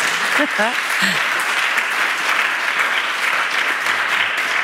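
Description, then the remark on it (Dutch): A live audience at Museum M in Leuven applauds steadily at an event tied to the opening of an exhibition, a dense wash of clapping that stays loud and even throughout, with a few brief voiced cheers or whoops near the start. “En vandaag zit ik met Pompidou voor een levend publiek. Jawel, eindelijk. Laat van jullie horen.”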